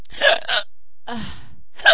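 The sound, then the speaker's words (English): A few sharp hiccups sound, spaced unevenly across a couple of seconds with quiet gaps between them. Each is a quick, breathy jolt, and no one speaks. “Don't focus on hiccups at all for some time.”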